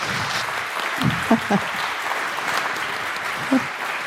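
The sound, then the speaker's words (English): An audience in a very hot tent claps steadily to welcome speakers to the stage, a dense wash of hand claps filling the whole clip, with a few brief vocal calls or cheers rising above it. “And so the stage is yours, and a big applause from you.”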